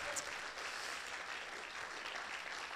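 Steady audience applause, a dense wash of many hands clapping at an even loudness throughout, with no voices breaking through.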